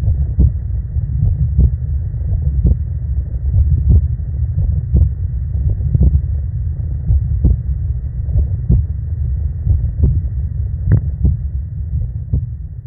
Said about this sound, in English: So just to send us off, here's my unfortunate heartbeat.